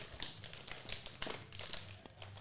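Crinkly plastic bag of Takis Blue Heat snacks rustling as a hand digs inside, a dense run of sharp crackles and scrunches with scattered louder crinkles, continuous for a couple of seconds with no talking.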